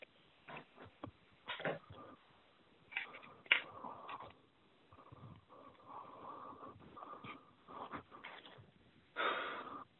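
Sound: heavy panting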